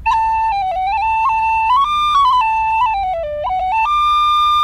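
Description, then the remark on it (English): A tin whistle, held in the hand, plays a short melody to demonstrate how most bagpipes sound, its bright, clear notes sliding smoothly into one another with no stops, gaps or breaks between them, steady and fairly loud throughout. “Just to demonstrate, I have the whistle in the hand here, so most bagpipes would be...”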